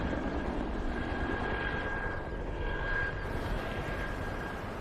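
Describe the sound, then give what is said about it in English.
A helicopter flying away into a clear blue sky: a steady, rumbling drone fills the air, with a choppy low throb and a faint whine on top, staying fairly loud and even throughout with no voices. “As some of the agents continue hacking at plants, the chopper heads away into clear blue sky.”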